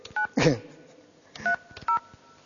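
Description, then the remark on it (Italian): A telephone number being dialed: three short, steady touch-tone beeps at uneven intervals, with a brief burst of voice between the first and second beeps. “Come posso aver sbagliato il numero due volte?”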